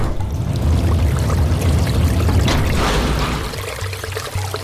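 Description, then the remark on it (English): Water churns and bubbles steadily under a heavy sector gate through a six-inch gap, a loud, continuous gurgling rush with a deep low rumble that eases slightly toward the end as the water level drops. “The water started to drop, bubbling under the heavy sector, through the 6-inch gap”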